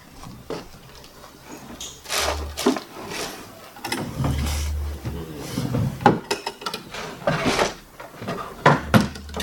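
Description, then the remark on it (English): Drawers slide open and shut repeatedly, with wooden scrapes, bumps and rattling contents as someone rummages through them looking for a marker, the clatter irregular and continuous. “There's some of these drawers. They usually are.”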